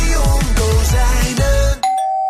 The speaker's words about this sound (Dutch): Is dit straks de bel van jouw B&B?